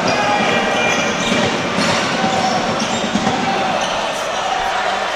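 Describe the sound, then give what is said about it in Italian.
A basketball is dribbled on a court by Robinson after a pass fake, in a game between Givova Scafati and Tortona, its repeated thuds partly buried under the steady roar of a large indoor crowd. “Robinson, la finta di passaggio, ottiene il palleggio.”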